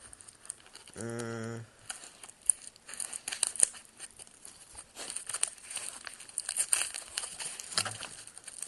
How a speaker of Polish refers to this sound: Tak więc ja teraz tutaj tą taśmę staram się zdjąć. Coś mi się tu chyba nie udaje tego zrobić.